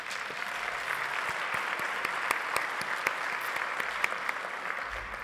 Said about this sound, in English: So I feel like you deserve a round of applause for that.